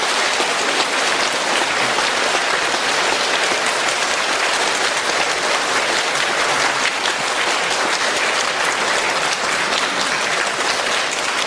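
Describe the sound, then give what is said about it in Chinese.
Warm, sustained applause from a large crowd welcoming Director Lu Junhong to come out and give a talk, a dense steady patter of many hands clapping at an even loudness throughout, with no voices heard over it. “在我请我们在座的所有朋友用最热烈的掌声请出我们尊敬的卢军红台长来给大家做开示。”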